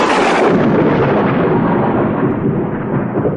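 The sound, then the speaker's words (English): A loud crash of thunder with lightning over Mount Sinai fills the air, a dense roaring rumble that rolls on steadily for a few seconds, its sharp upper crackle gradually dulling. No voices. “Lightning flashed and smoke covered Moses.”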